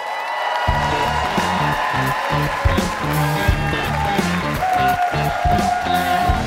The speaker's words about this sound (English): Let's keep this very same applause going for the first performer coming to the stage from San Francisco.